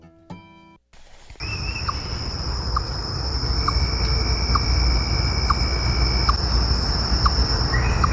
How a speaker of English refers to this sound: Why do they always trick me? I always think it's a bird. I know. I think it sounds like a little frog, but it's a chipmunk making a little monk sound.